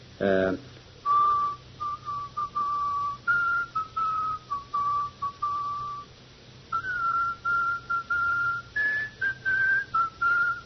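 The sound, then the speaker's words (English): A man whistles a slow, solemn funeral dirge tune, the same one he repeats over and over, in clear sustained phrases separated by short pauses, with no talking over it. “He's always whistling to himself. And he whistles the same tune over and over again.”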